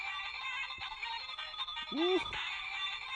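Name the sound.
phone ringtone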